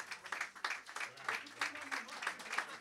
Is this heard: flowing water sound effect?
no